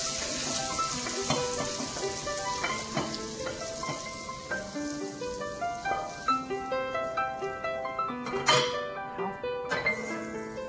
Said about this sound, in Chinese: 这就是我们的客家小炒，怎么样？有没有食指大动，开始流口水了？尤其是在炒这个客家小炒的时候，香到不行，我觉得肚子好饿了。